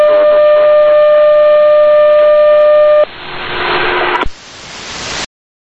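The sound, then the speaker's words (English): A steady, high electronic tone with harmonics buzzes over aviation radio static on an air traffic control ground frequency during a taxi clearance for WestJet 130, for about three seconds, then shifts to a harsher, noisier hiss that jumps brighter before cutting off abruptly. “Pusha 130, got a tone there, taxi Echo Delta, hold short Delta 5, stay with me.”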